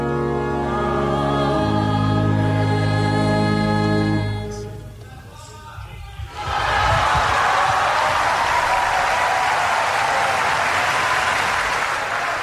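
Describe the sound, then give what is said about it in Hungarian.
Sustained sung or chanted tones fade into a brief hush, then a storm of applause greeting the Holy Father's catechesis erupts, dense, loud and unbroken, rolling on for the last six seconds. “Kedves Mária Rádió hallgatók, a szokott módon tapsviharral köszöntik a Szent Atya mai katekézisét.”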